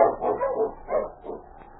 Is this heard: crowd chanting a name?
no